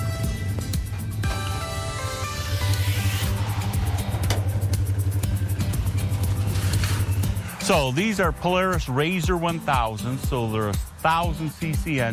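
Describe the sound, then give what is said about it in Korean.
A powerful Polaris Razor 1000 off-road UTV with a 1000cc engine revs and roars on the sand dunes of the Silver Lake ORV area in Michigan, pitch climbing then holding steady for several seconds before a man starts talking over its fading rumble. “이건 폴라리스 레이저 1000이라는 모델인데 1000cc 엔진을 탑재하고 있어요.”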